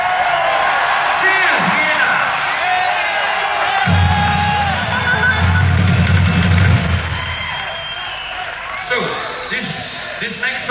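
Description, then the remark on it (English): A concert audience in Vienna cheers and whoops loudly and continuously, with scattered yells rising above a dense wash of voices and a heavy low rumble swelling midway through. “And thank you for giving us such a nice, jolly welcome to our British land.”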